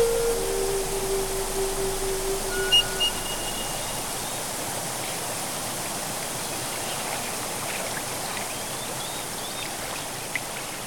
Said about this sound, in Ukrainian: Відтоді цей водоспад називають водоспадом блідолицих.